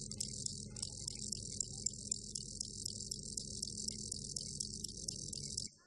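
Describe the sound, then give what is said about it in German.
Continuous, rapid cricket chirping in a steady pulsing rhythm, with a muffled, band-limited low hum beneath, played back through an old telephone receiver to female crickets in an experiment; ends abruptly. “Der hat nämlich einen alten Telefonhörer genommen und hat Grillenweibchen mal Geräusche vorgespielt.”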